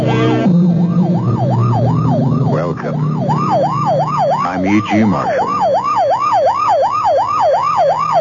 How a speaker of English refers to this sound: Times I hear that sound, it still sends a chill down my spine. You know it's a police car or ambulance on the way to or from an emergency in which someone is badly hurt.